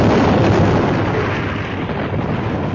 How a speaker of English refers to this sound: With a tremendous blast of fire and thunder, the power packs blew up.